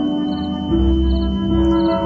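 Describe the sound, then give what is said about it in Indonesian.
Three faint, high-pitched cricket chirping trills repeat at a steady pace over a loud, sustained low droning tone that swells partway through. “Terdengar bunyi jangkrik menggentariku.”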